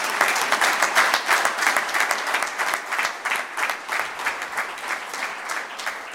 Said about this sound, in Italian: però insomma gli ricapiteremo a casa il nostro ricordo e l'applauso ancora di tutti noi.